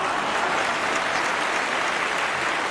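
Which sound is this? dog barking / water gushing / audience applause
audience applause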